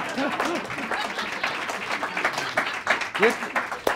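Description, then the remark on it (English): An audience at an evening talk event applauds, a dense, steady wash of many hands clapping for about four seconds, with a few voices calling out briefly through it. “You can applaud me as often as you wish.”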